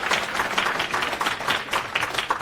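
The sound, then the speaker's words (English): A crowd at a talk breaks into applause for a man seated in the front row, a dense, steady wash of many hands clapping at once, fairly loud and sustained throughout with no voices standing out. “and he, yes, big round of applause.”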